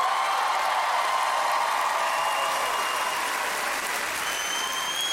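A crowd at a band's tour show applauds steadily, a dense, continuous wash of clapping that holds at an even loudness throughout and eases slightly toward the end, with no voices standing out.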